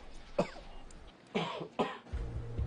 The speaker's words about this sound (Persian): چه مدت داره سرفه میکنه؟ یه مدتی میشه، ضربان قلبش بالای 100. وضعیت اکسیژنش روی 93.